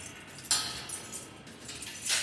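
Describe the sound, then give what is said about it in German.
Keys jingle and clink in a few bright metallic bursts, with a sharper rattle near the start and another toward the end, as a door is being unlocked. No voices. “So, jetzt geht's los. Wir schließen auf.”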